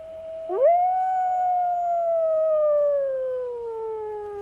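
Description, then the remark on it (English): A wolf lets out a long, clear howl that swoops upward, then holds and slowly sinks in pitch over several seconds, heard alone without any talking. “I think the wolf singing is very beautiful”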